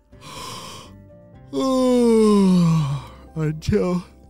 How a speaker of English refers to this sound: A whole bunch of yawns just came out of nowhere and attacked him and made him really sleepy. Have you ever had a yawn come out of nowhere and it just makes you super sleepy?